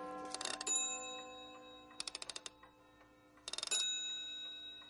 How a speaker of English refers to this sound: And thus he remained until the nearby clock began to strike the hour.